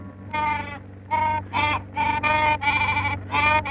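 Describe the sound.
A voice imitates a Himalayan yak's mating call: about seven nasal, bleating bursts in a choppy run, some short and some drawn out, over a low steady hum.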